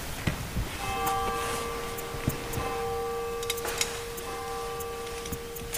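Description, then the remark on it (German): A church bell at the foot of a 988-metre mountain strikes 6:45, a few rings, each sustained and humming as it fades, over a quiet outdoor background with faint scattered clicks. “Die Kirchenglocke am Fuß des 988 Meter hohen Bergs hat 6:45 geschlagen.”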